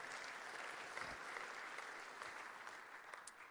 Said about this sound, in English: If one person's going to clap, we all have to.